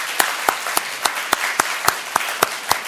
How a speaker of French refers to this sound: Avec les deux mains, on applaudit aussi. Qu'est-ce que c'est beau une main quand même.